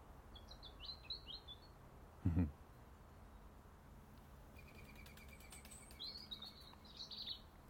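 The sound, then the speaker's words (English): Morning birdsong recorded with binaural earbuds: short bursts of bright, high chirps and twitters at the start and again near the end, with a soft rapid trill in between and one brief low thump over a faint steady hiss. “I have bird song and bird sounds this morning.”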